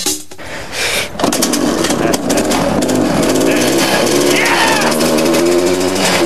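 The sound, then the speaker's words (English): A snowmobile engine with a CVT, used in a four-wheel build on an old garden tractor chassis, revs loudly, a steady, rough mechanical roar that surges and climbs in pitch for several seconds without letting up. “They'll still use the snowmobile engine and CVT, but they'll have to create a whole new drive system.”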